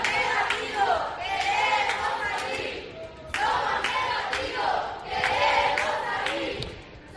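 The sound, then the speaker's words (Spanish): A group of young people quarantined in a hotel shouts and chants together from the hotel balconies in loud, overlapping bursts, rising and falling in two or three waves over several seconds, with a raucous crowd-like quality. “Esos chavales no entienden que les obliguen a guardar cuarentena si no están contagiados y así lo hacen saber a gritos desde los balcones del hotel.”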